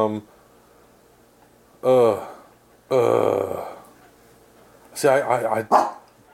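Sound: dog barking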